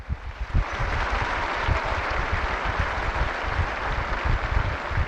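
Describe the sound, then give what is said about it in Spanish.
A large crowd applauds the newly beatified, a dense wash of clapping holding at an even, fairly loud level for the full five seconds with no voices breaking through. “Un aplauso a los nuevos beatos.”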